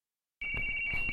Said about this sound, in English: That noise is coming from the receiver, and the receiver is receiving data from the transmitter. That noise is actually, ones and zeros being sent across the air.